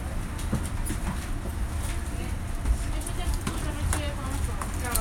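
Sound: train interior rumble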